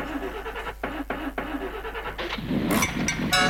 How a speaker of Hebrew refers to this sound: ונשארים בעולם המכוניות בעוד שיר שנפתח בהתנעה של מכונית.